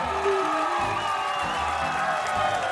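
A crowd applauds and cheers in a steady, dense roar of clapping mixed with shouts and whoops, holding at an even loudness throughout without fading.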